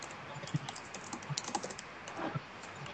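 Rapid, irregular clicking of keys on a computer keyboard, moderately quiet, with a few sharper key strikes standing out in a steady stream of typing. No one speaks.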